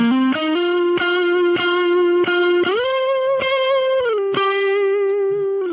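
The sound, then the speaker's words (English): A sustained, distorted electric guitar solo with bending, singing notes, washed in delay and reverb so each phrase trails off into echoes. Loud and steady throughout, no voices. “And it's interesting on that sound that in the mix there's also some delay and some reverb added to the sound as well.”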